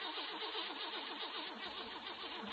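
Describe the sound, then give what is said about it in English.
A car engine cranks over and over in a steady, labored rhythm without catching, the starter whirring loudly with no one speaking. “Let me get this thing started here.”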